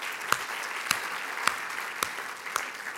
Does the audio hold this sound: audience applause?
yes